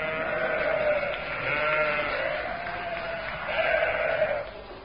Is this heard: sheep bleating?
yes